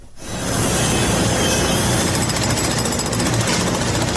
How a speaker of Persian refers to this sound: می برند، می کنند و سوراخ می کنند. تقریبا 5 شبانه روز است که صدای ماشین‌آلات و ابزار نیروهای امدادرسان در شمال سوریه و جنوب ترکیه قطع نمی شود.